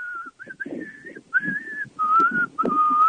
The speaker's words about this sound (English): Hey, whistle something for us before we say goodbye. All right.